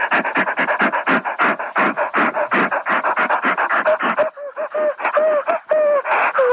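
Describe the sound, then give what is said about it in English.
A person loudly imitates a dog panting, with rapid, rhythmic breathy huffs, shifting near the end into whiny, voiced whimpering pants. “Yeah, I want to hear you pant really loud so that I know you're a good little doggie, so I know that you're shaking your tail for me.”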